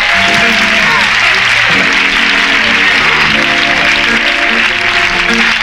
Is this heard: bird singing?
no